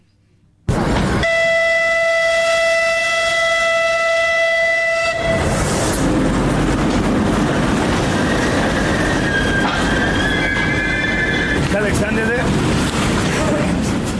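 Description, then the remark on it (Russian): A passenger train running between Kyiv and Mykolaiv, Ukraine, sounds its horn in a long, steady blast for several seconds, then rumbles past loudly with continuous clattering and roaring wheel noise until the end. “А в Николаев сегодня впервые с 24 февраля отправился пассажирский поезд из Киева.”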